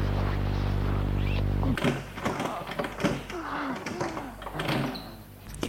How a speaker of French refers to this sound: Un jour, qu'ils font l'amour dans la chambre, ils entendent du bruit dans la serrure.